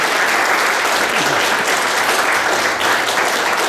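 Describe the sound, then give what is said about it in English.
A loud, sustained burst of audience applause, dense steady clapping from a crowd filling the whole stretch without pause or voices. “One more round of applause for Allison.”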